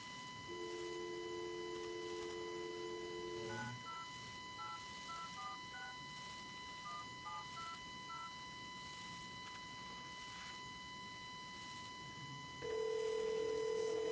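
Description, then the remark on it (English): A phone dial tone hums briefly, then a quick run of about ten touch-tone keypad beeps. After a pause, a steady ringback tone begins near the end, clear. “Now, you got it ringing.”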